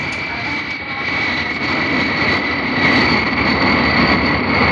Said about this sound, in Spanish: Velocidad increíble para su enorme peso muerto, el gigante del aire inicia el vertiginoso recorrido por la pista. Al cabo de 45 segundos exactos, levanta el vuelo en forma espectacular.